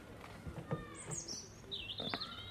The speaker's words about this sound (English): All you hear is the birds, usually.